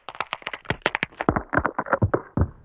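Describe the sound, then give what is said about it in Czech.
A rapid, irregular run of sharp cracks and creaking snaps as an airliner's boarding stairs break under the weight of a yeti, loud with no one talking. “A tohle byly ty schůdky.”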